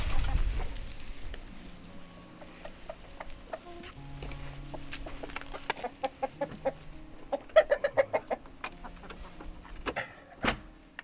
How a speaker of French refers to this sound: Ça, c'est pour les poules.